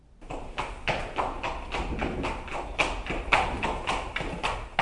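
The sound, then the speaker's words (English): Hollow, woody clops from coconut shells knock out a steady galloping rhythm, mimicking a horse's hooves at a brisk pace with no voices over them. “Well, coconuts sound like a horse galloping. They sound just like real horses.”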